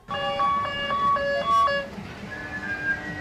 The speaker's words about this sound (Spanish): El carrito, ¿no? Es el mítico Scalextric de los cochecitos con los niños que tienen unas cuestas, y va dando vueltas. Sí. Y lo único que tienes que hacer es ir saludando según pasan.